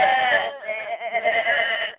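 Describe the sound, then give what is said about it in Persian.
A voice imitates a sheep's bleat: one drawn-out, quavering "baa" lasting about two seconds, fairly loud, with a wobbling pitch before it cuts off. “گوسفند گفتن به.”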